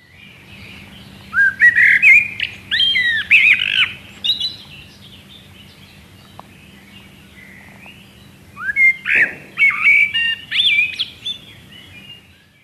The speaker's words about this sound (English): Some of the most common birds that you can see and hear all year round include blackbirds. They have a beautiful, low singing voice which is very tuneful.